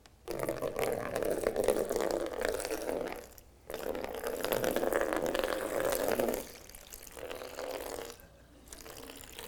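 About a pint and a half of liquid pours out of a jar in a demonstration, a steady, fairly loud splashing stream broken into three long runs by brief pauses, with no one talking.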